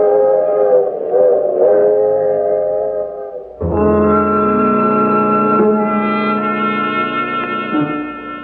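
A loud train whistle blows in long, steady chord-like blasts. It briefly dips, then returns fuller and stronger over a low mechanical rumble as the train passes by at Sooner Falls, continuing on to New York. No one speaks.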